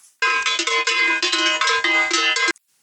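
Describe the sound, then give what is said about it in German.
A doorbell at a farmer's house in Bavaria, rung during a visit with economy minister Robert Habeck, rings in one long burst of about two seconds, a loud, bright metallic ringing with a rapid rattling pulse that cuts off abruptly. No one speaks. “So, ich klingel mal eben.”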